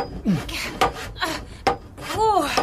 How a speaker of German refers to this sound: Sägen ist ganz schön anstrengend.